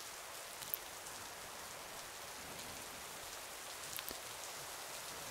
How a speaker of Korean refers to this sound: 갑자기 또 비가 내리기 시작했어. 많이 올 것 같지? 비가 와서 잠이 잘 안 온다고? 나는 빗소리 들으면 잠이 잘 오더라고.